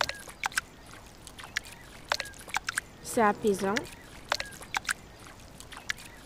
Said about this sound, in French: Non, je l'entends. C'est comme si elle faisait une musique qui fait tam-tam, après elle fait boum. Mais c'est, on l'entend pas beaucoup. Mais on dirait que ça fait une musique et que le vent danse la musique que les vagues font.